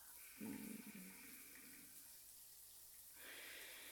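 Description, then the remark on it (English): Hot shower water streams in a steady, broad hiss, with a brief lower splashing surge early on and a brighter, fuller rush toward the end. No one speaks. “So nice to feel the hot water.”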